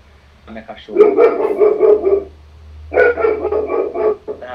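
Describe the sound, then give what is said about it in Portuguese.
A pet female dog barks in two loud, drawn-out bursts of rapid, mid-pitched yelps separated by a brief pause, with a low steady hum underneath. “Minha cachorra.”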